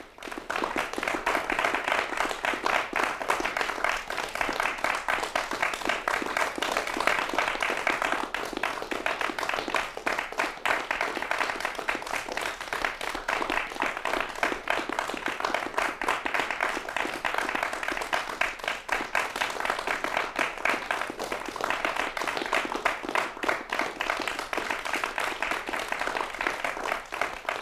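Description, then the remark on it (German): Sustained applause from a crowd, dense and steady with many overlapping hand claps at an even loudness throughout, no voices standing out. It opens Kunstradio's long night of new Austrian music. It is a piece by two artists. “Applaus für die lange Nacht der neuen österreichischen Musik, die das Kunstradio heute einleitet.”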